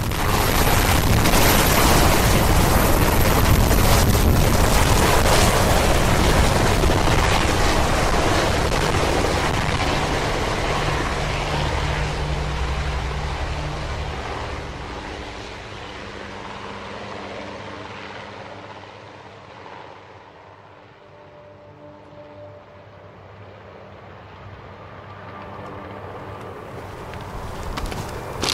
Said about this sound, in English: Then, the first family leaves the Capitol, by helicopter.